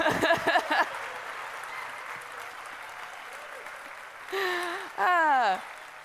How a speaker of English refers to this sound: An applause so raucous that my PowerPoint absolutely crashed.